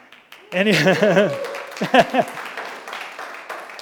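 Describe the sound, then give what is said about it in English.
A church audience breaks into steady applause, a dense wash of clapping that starts suddenly and carries on, with loud whooping and cheering voices rising over it early on. “Don't clap too loud because it goes right to his head there anyway.”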